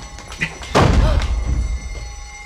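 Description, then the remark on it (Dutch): A heavy steel door near a building's roof slams shut once with a loud, booming impact, followed by a low metallic rumble that fades over about a second, with a faint background hum. “Een deur, een stalen. Nou, rennen, voor die dicht gaat.”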